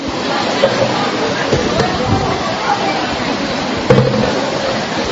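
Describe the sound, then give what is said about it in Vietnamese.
Steady, dense hiss of rain falling, a constant wash of noise throughout with a few brief louder patters and faint, indistinct voices in the background as people are urged to hurry up out of the rain. “Lẹ lên có trời mưa các anh em.”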